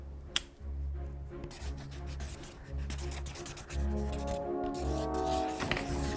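Pens and pencils scratch and rub steadily across paper as someone draws on small cut-out paper rectangles, with short strokes and brief pauses, over a low, constant background hum.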